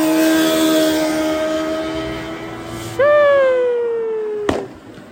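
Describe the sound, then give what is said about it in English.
A car engine drones steadily, then suddenly revs up loudly, its whining pitch easing down over the next couple of seconds before a sharp click ends it; Saudis in their cars, heard from a bus stop. “You know, Saudis in their cars.”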